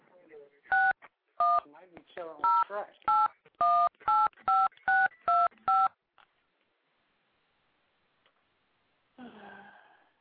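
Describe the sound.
A quick run of about ten touch-tone beeps as a phone number is dialed to place a live call, each tone short and evenly spaced, followed by near silence and a brief murmur of voice at the end.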